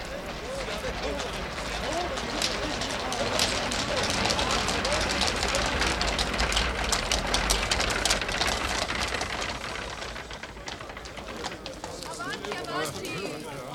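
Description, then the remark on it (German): A steady wash of crowd chatter and greetings at a ball, voices blending into an even noise while many footsteps tap and shuffle across the floor throughout, busy. “förmlich betäubt von den in ein gleichmäßiges Geräusch zusammenfließenden Stimmen, Schritten und Begrüßungen.”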